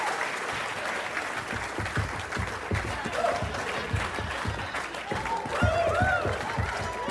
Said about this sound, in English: Can we get a little bit of clapping? A little bit of clapping going?